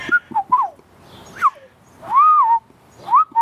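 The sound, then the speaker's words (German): A person whistles an imitation of a golden oriole's fluting call: a few short liquid phrases followed by a longer, rising-and-falling mellow note, then a final brief flourish. “ein Pirol hat gezwitschert oder geflötet. Das ist ja ein ganz besonderer Ton, den die Pirole machen.”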